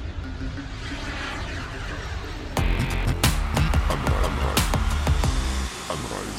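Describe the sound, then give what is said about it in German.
A steady, loud airplane engine drone fills the scene, with a broad roaring hum that jumps louder partway through and is overlaid by sharp clicks and knocks. “Flug, Unterkunft und dann steigen wir jetzt ins Flugzeug,”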